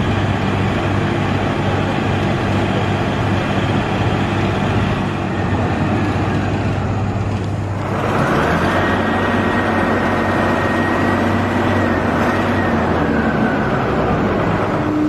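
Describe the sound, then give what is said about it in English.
A backhoe's diesel engine runs loud, a steady heavy rumble that shifts pitch about halfway through as the machine revs up and keeps working, pulling up water lilies and dumping them into a truck. No voices. “over here they're using a backhoe.”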